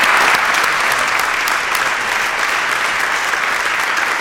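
An audience applauds steadily to thank and welcome a guest speaker back to the pulpit, a dense, even patter of many hands clapping at a constant loud level throughout, with no one speaking over it.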